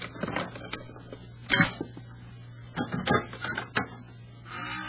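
A pass key scrapes and rattles in a hotel room door lock, with a series of sharp metallic clicks as the latch turns, over a low steady hum, ending in a soft sustained rustle.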